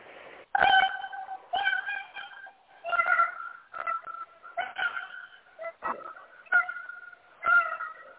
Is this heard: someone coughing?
no